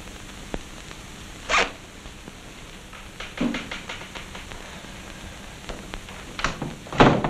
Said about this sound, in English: Looking gloomy, Harvey ponders. He zips up his briefcase and goes home.